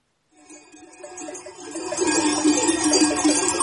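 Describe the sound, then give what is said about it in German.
A jangle of many bells on a herd made up mostly of goats rings continuously, overlapping clangs like a cluster of cowbells, growing louder after a couple of seconds. No one speaks. “Ich hoffe, es ist nicht zu laut. Es klingelt ein bisschen.”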